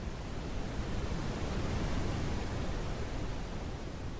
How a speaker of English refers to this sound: For me, I like brown noise better. It just kind of sounds like static, and to some people it sounds like waves and stuff, but to me it sounds like static, and I don't know, it's kind of calming, and if I play it loud enough it drowns out people